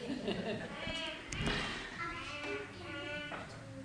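A lamb bleats several times in short, wavering cries, moderately loud, with brief gaps between calls and some soft background noise.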